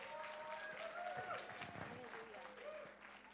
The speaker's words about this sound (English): Can you give her a hand clap as she comes to the pulpit?